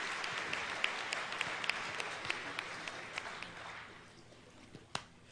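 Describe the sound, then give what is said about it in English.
A crowd in a building applauds to thank God for his ministry, with dense, rapid hand clapping that swells briefly and then gradually fades, leaving a few scattered final claps near the end. “And if you believe that God answers prayer, let's clap our hands and thank God for his ministry to us.”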